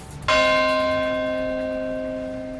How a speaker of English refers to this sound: The bell of hope rang out at St. Paul's Chapel in New York on Monday morning to mark the moment at 8:46 a.m. New York time, 12:46 GMT, when the first of two planes hit the World Trade Center on September 11, 2001.